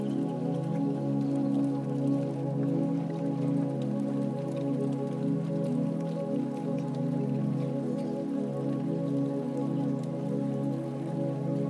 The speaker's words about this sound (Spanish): Siente cómo comienzan a caer suaves gotas. La lluvia comienza a descender, ligera, inevitable y absolutamente liberadora.